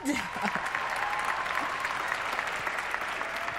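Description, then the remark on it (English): An audience breaks into steady applause for all the single mothers in attendance, a dense wash of many hands clapping at an even level throughout, with a faint murmur of voices mixed into the crowd noise. “And let's give a round of applause to all the single mothers in attendance today.”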